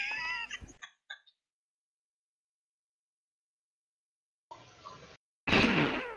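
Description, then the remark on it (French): Cats meowing from a played video of cats taking tumbles: a drawn-out meow and a couple of short chirps, a few seconds of silence, then two harsher, noisy yowling bursts close together. “Bah, elle a rien de drôle, c'est des chats qui se cassent si, la gueule.”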